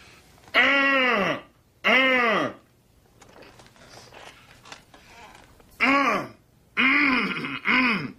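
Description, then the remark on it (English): In a film, Philip Seymour Hoffman, filling in to give a presentation at a life insurance company, loudly and repeatedly clears his throat to kill time, five drawn-out, voiced 'ahem' sounds in two clusters separated by a quiet pause. “And he's trying to kill time by clearing his throat.”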